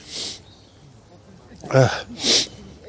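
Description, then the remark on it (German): A single loud sneeze, triggered by looking into a light: a breathy intake, then a sharp voiced burst quickly followed by a hissing blast of air, with no talking around it. “Oder ich habe ins Licht geschaut und dann muss ich sofort das Niesen anfangen.”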